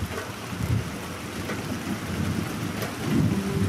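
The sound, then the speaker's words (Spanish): Steady rain hisses across the whole clip while deep, rolling thunder rumbles underneath, swelling louder near the end. No one speaks. “¿Cómo se originan los rayos, los truenos y los relámpagos?”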